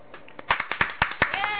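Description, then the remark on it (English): A short burst of applause played as a cheering sound effect for the guests: a quick, uneven run of sharp claps over a bright wash of cheering voices, ending abruptly after a second or so. “Where's our cheering thing? Our what? Cheers. Cheers for the guests.”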